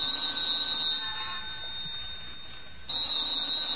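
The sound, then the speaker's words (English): A telephone rings with a shrill, high-pitched bell tone, fades down briefly in a pause, then bursts into loud ringing again. No one speaks. “Answer it, Tommy. Oh, look, what difference is a phone call now?”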